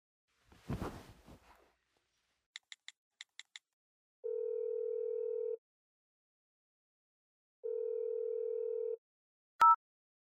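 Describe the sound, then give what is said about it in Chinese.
A handset rustles, then six quick dialing beeps, followed by two long, steady telephone tones separated by a pause, ending with a sharp click. No one speaks. “你可以打电话给他，问一下。”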